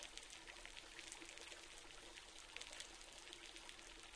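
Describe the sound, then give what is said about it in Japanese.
Carbonated shampoo, used for a second wash, pours out in a steady, soft hissing stream with a fine fizzing crackle, quiet, continuing without a break and with no one speaking. “これはね、本当は2回目も普通のでいいんだけど、しっかり毛穴の汚れと地肌の血行をさらに良くしてくれる魔法のシャンプー、炭酸シャンプーだよ。”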